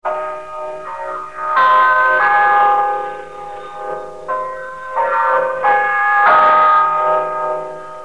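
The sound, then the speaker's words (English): A radio time-signal chime, the LM chime marking exactly 12 noon, plays a slow melodic sequence of about seven bright, ringing bell tones, each sustaining and overlapping the next, loud with no voices. “Check your time with the LM chime.”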